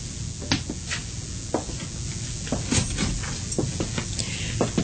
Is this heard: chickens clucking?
no